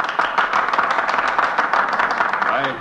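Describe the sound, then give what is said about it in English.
Sustained applause from a crowd of senators in the United States Senate, a dense, steady patter of many hands clapping at once, loud throughout, with a faint voice rising near the end. “I hope the history books will record that applause, because much of it comes from senators who are going to vote in a few minutes for my removal from office.”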